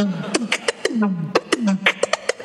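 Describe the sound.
A beatboxed vocal sound, the pips, invented and named by the beatboxer: sharp mouth pops and clicks alternating with short, descending, whistly vocal glides, repeated in a quick, bouncy rhythm about four times, with no speech.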